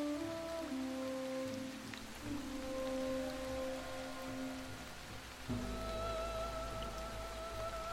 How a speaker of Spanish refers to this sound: Está tardando demasiado y la lluvia no cesa.